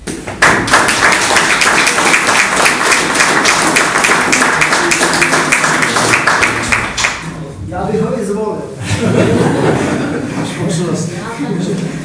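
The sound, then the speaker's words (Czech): A crowd breaks into steady, dense applause for the mayor that carries on loudly for several seconds, then dies away as a man begins speaking. “ale hlavně bych chtěl za nás za všechny poděkovat i starostovi, protože si myslím, že nejenom rada, nejenom paní tajemnice, ale hlavně starosta to tady udržoval a že to je i jeho zásluha a rád bych mu za to zatleskal.”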